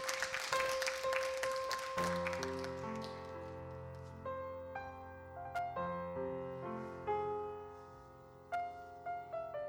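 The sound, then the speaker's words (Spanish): A burst of audience applause for the pianist fills the first couple of seconds, then fades as a solo piano begins playing gentle, sustained chords and melody. “en piano, por favor, un aplauso.”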